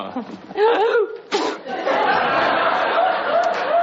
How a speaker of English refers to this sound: Gesundheit.